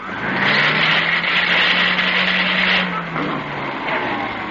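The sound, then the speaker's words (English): A repaired vacuum cleaner with slightly worn gears, just switched on, runs loudly and steadily, a broad roaring whine over a low motor hum that wavers slightly, giving it a faintly uneven, chugging character. “I fixed your vacuum cleaner.”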